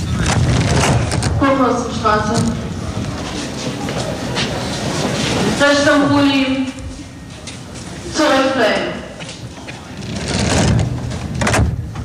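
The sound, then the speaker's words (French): A crowded Berlin subway train coming from the East on a Saturday morning rumbles steadily along with dense crowd noise, as rising and falling tonal whines sweep up like an accelerating electric motor several times, with people's voices mixed throughout. “Regardez, c'est un samedi matin, dans le métro, qui vient de l'Est, le vrai.”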